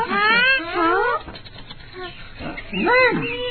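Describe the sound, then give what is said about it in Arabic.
A cat meows loudly and insistently, with a long wavering yowl at the start, a quieter gap, then a second drawn-out meow near the end. “القطة القطة، كيف حالك يا قطة؟”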